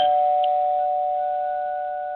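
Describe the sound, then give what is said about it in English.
A doorbell chime rings out with a steady, clear electronic tone that holds and slowly fades over a couple of seconds, heard alone with no voices. “Somebody's ringing my bell.”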